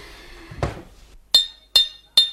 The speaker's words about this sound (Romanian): Bate gongul. Da. De 3 ori, auzi? De 3 ori.